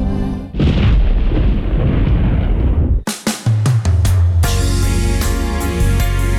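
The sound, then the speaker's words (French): A loud thunderclap rolls in as a deep, broad rumble for about three seconds, then cuts off and music with sustained tones starts in. “après un coup de tonnerre pour ma dédicace.”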